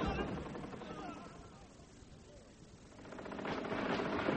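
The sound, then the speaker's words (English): A steady, dense crackle of rapid gunfire rattles on without pause, dipping slightly midway and then swelling louder again, with indistinct voices mixed underneath. “Well, Sir Robert, if the Empress is offering peace, what is the meaning of this gunfire?”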